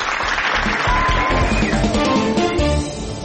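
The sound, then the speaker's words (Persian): A burst of clapping from a crowd, given to several Iranian newspapers, dense and steady for a few seconds, then tapering slightly near the end. “دست راستشون زیر سر روزنامه های عافیت طلب و گوش به فرمان، تشویق.”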